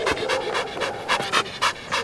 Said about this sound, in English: Cooley is a Belgian Malinois, sleek, lean, dappled gray and black, panting happily on a patch of grass way up in the hills of northeastern Alabama.